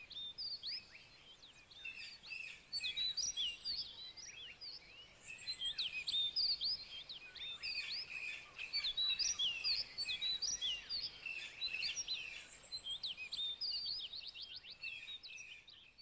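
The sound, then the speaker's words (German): Many small birds perched on tree branches chirp and twitter in busy, overlapping high-pitched calls, a steady chorus lasting throughout, with no voices present. “Kleine Vögel fliegen nun, um auf den Zweigen zu sitzen.”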